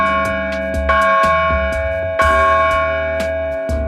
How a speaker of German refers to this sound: Am Freitag waren die Experten der Firma Willing zur Montage auf dem Turm der Bergkirche. Pfarrer Lars Reinhardt ist sehr froh über die neue Glocke und so klingt sie.